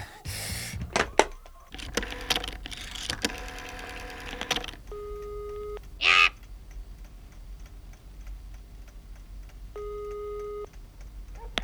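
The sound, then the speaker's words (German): A telephone is dialed with a quick run of clicks and tones, then two steady electronic ring tones sound in turn, separated by a short pause. No one speaks. “Der erste Detektiv, der um diese Zeit allein in der Zentrale saß und noch recherchierte, griff sofort zum Telefon.”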